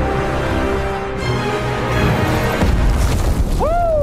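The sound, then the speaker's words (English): A loud, dense cinematic rumble in a film clip swells into a heavy booming impact of a superhero landing on the ground, followed by a sharp rising whoosh at the very end. “So you're going to do a superhero landing.”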